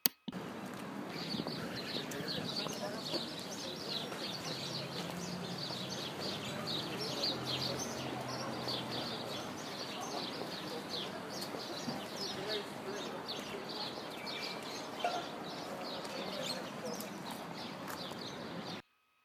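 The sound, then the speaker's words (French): Birds chirp and sing steadily outdoors, a busy springtime chorus layered over constant background bustle and faint murmuring, with no clear pauses through the whole stretch. “À l'air libre, les oiseaux chantent et annoncent le printemps.”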